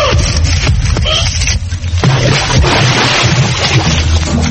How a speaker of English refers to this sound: for that splash.